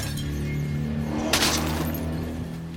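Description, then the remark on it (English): Over a steady, low vehicle engine drone, a single sharp burst of gunfire from pursuing men in pickup trucks armed with AK-47s strikes the car, bringing a bright crack and a brief shattering, glassy splash that quickly fades. “Okay, that's gunfire.”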